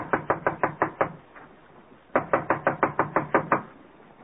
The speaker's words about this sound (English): This looks like Connie's apartment. I'll knock on the door.